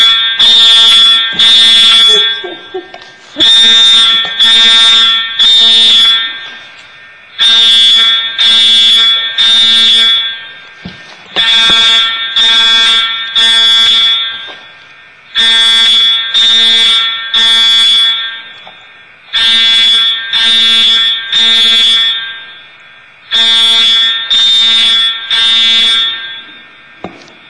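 A loud fire alarm blares during a test of the alarm system in a court chamber, in repeated bursts, each a cluster of three rapid harsh tones followed by a short pause, cycling steadily with no voices over it.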